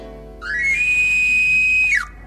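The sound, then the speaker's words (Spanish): A single sustained whistle tone rises quickly, holds a steady high pitch for over a second, then drops away at the end, sounding clear and fairly loud with no talking. “Y acá suena más como este que te estoy mostrando.”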